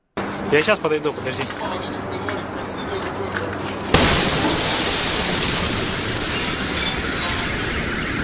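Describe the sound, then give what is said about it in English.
Voices talk for a few seconds, then an explosion shockwave hits abruptly, breaking windows and blowing doors off their hinges with a loud burst that gives way to a sustained, steady roar of rushing noise and clattering glass. “I mean, I've seen some of the shockwave damage, and there's video of the shockwave actually hitting doors and blowing doors off their hinges.”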